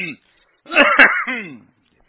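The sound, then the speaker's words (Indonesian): A voice imitates clearing its throat, as a worshipper behind the imam might during prayer: a short, voiced 'ahem' with a rough burst in the middle, fairly loud after a brief silence. “Maunya dia sok batuk atau dehem-dehem gitu.”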